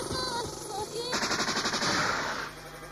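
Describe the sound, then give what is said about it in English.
A rapid burst of gunfire sound effect, like a machine gun rattling off quick repeated shots for over a second, loud, layered over a busy music backdrop with a voice earlier. “Record means rewind, the gunshot means forward.”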